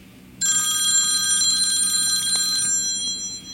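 A telephone bell rings in one bright, shimmering metallic burst lasting about two seconds, then fades away. The ring is loud and high-pitched with no voices present.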